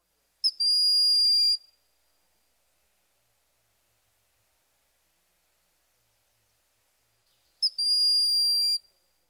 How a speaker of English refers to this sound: Now let's review the hawks themselves. First, the broad-winged shrill whistle.